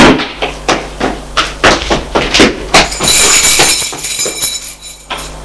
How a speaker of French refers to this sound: La porte d'entrée vient de s'ouvrir.